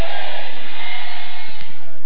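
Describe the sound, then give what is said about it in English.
A large audience shouts amen together in a loud, sustained roar of many voices, a dense wall of crowd noise lasting about two seconds with no single voice standing out. “Let your amen roar like thunder.”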